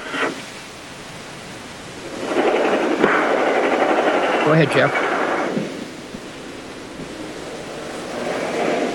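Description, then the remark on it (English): A train passes as a broad, steady roar that swells up, holds for a few seconds with a brief rising tonal whine in the middle, then fades back down, while a voice speaks briefly. “Sorry, train.”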